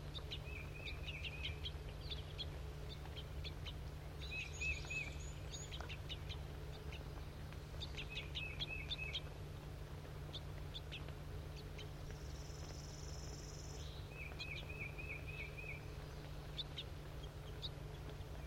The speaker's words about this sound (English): The juvenile is begging from the male, who's an orange bird.